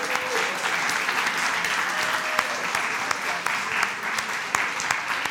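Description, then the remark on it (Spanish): A crowd applauds all the mothers steadily for several seconds, a dense wash of clapping with sharper individual claps standing out now and then, loud and sustained throughout. “Felicidades a todas las mamás. Un aplauso para ellas.”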